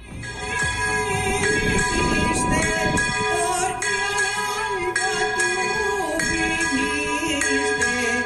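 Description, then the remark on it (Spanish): Church bells ring the traditional volteo de campanas, pealing continuously with bright, ringing overtones, layered over a crowd at the church doors singing the traditional mañanitas to the patron, the Mare de Déu del Sufrage, in a steady, loud wash of sound throughout. “Se haya tenido lugar el tradicional volteo de campanas que escuchan por encima de la canción.”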